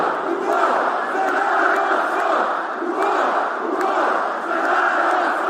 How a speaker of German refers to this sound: Ein großer Teil der rund 20.000 Zuschauer brüllen: in den Kampf für unser Volk. Ein Schlachtruf, der bei Fußballfans beliebt ist und der sich ursprünglich auf eine kroatische Schlacht gegen die Osmanen im 16. Jahrhundert bezieht.